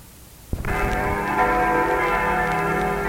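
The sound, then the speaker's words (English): Wedding bells ring out loudly and suddenly after a brief quiet moment, their bright overlapping tones sustaining and shimmering together without pause. No one speaks. “That's right, those are wedding bells.”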